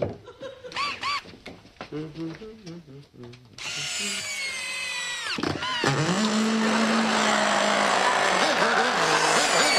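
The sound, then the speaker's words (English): Brief snickering laughter, then a gas-engine powered screwdriver roars to life, loud, revving up with rising and falling pitch and running continuously to the end. “Your electric screwdriver has a gas engine?”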